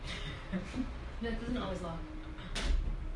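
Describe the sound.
A door that doesn't always lock swings shut with a dull thump near the end, preceded by indistinct voices murmuring in the room.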